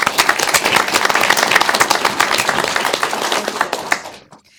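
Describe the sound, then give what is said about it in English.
A crowd breaks into steady applause for the volunteers and staff, many hands clapping in a dense, crackling wash that holds strong for about four seconds before quickly dying away. “So I would like to give a round of applause to our volunteers and our staff for having participated in these three events.”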